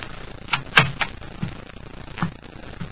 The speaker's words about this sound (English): I got to apartment 1B. I knocked. Then I tried the door. It was open, and I walked in.